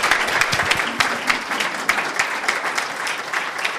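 A crowd claps steadily in a warm welcome applause for a guest, dense overlapping hand claps forming a sustained, fairly loud wash of applause with no one speaking over it.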